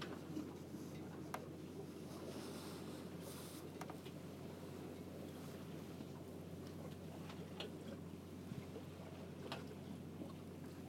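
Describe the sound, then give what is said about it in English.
A boat moves steadily through water as rain starts, with a constant low engine drone and rushing wash, plus occasional light clicks and ticks. No one speaks. “Boat to the right.”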